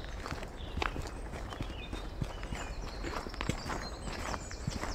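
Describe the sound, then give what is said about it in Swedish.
Irregular sharp knocks of a woodpecker, a few taps spaced unevenly over the seconds, set against a steady bed of outdoor noise and faint high bird calls, under a clear blue, sunny sky. “Här är vi en hackspett.”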